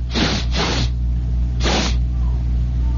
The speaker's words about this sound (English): I'm sniffing the air. I'm like a great caged jungle beast. I'm sniffing the air. See how the situation is out there. Oh, I can smell.